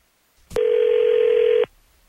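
A telephone call placed by hosts of the morning radio show on 102.9 The Wolf, connecting: a click, then one steady, mid-pitched ringing tone that holds for about a second before cutting off. No one speaks.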